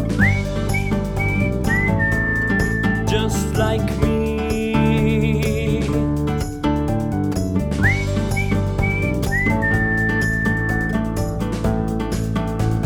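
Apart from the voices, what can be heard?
person whistling a tune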